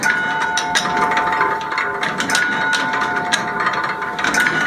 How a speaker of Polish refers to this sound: Na wieży ratusza ruszył 200-letni zegar Johanna Gottlieba Beckera z 1801 roku.